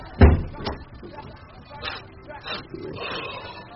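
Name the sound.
door being shut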